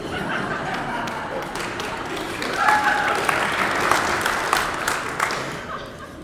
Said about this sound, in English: We seem to be in a mood this morning to applaud. Might I just say in advance, there's no need after the sermon.